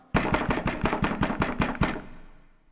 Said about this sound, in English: And so one night, my wife and I were sleeping, and all of a sudden there was a banging at the door.